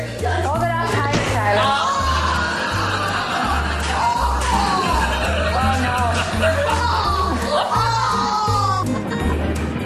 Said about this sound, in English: And in North Dakota, this is what passes for beach volleyball. I bet they hear this guy scream all the way to South Dakota.